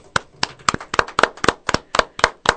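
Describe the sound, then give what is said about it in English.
The show's producer clapping after a poem, a single person clapping in a steady, brisk rhythm, about a dozen sharp, crisp claps in quick succession at moderate volume, with no talking. “Our producer is even clapping on that one.”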